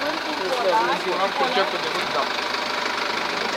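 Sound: boat engine running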